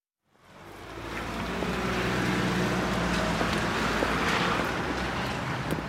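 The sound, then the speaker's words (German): Heavy trucks rumble and rush past in an industrial area of Stuttgart-Wangen, Germany, on a grey, cold Friday midday: a steady, loud roar of traffic with deep low engine noise and no pauses, no voices heard. “Freitagmittag, ein Industriegebiet in Stuttgart-Wangen. Lastwagen rauschen an mir vorbei.”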